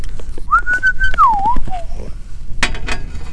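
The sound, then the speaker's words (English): A person whistles a birdlike call, recreating a bird's chirp they had heard: one clear tone that slides up, holds, then dips and wavers before fading, over steady room noise and a brief clatter. “Do you hear that bird chirping over there now?”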